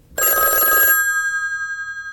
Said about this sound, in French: Un jour, le téléphone sonne enfin.